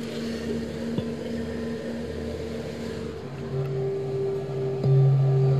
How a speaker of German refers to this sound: Ja, und zwar, das ist, sind eigentlich so große, würde man sagen, so eine halbe Kürbisgröße, sind das Metallschalen. Und dann haben diejenigen, die die bedienen, so einen Klöppel, schlagen die dann an und das klingt dann folgendermaßen.